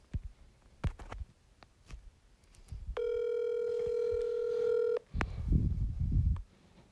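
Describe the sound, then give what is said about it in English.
Telephone dialing and ringing as someone phones a coworker: a few short sharp taps, then one steady, buzzy two-second ring tone at a moderate level, followed by low muffled rustling. No one speaks. “I work with her, and we're gonna fucking see if she wants to pick up the phone, and you know, we'll see what's up.”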